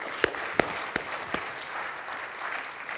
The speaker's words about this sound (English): This is working inside of Edge today with ORTC. So can I get a small golf clap for ORTC?